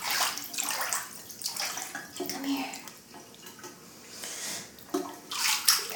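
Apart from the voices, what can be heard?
water sloshing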